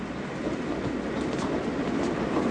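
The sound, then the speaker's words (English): A train moving fast rumbles steadily along the rails, a continuous rolling roar with faint rhythmic clacking and a few brief high squeals, no voices. “because we're above the ground and the train goes fast.”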